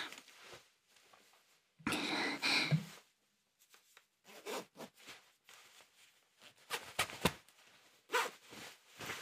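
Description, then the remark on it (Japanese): A clothing zipper is pulled open in one loud, rasping stretch as someone takes off their clothes, followed by scattered soft rustles and brief fabric rubs. No one speaks. “早速チャックも開けて脱いでいきたいと思います。”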